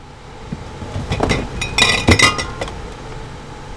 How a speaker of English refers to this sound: pulls glass jars of raw cow's milk from one of the coolers against the wall of a refurbished shuttle bus.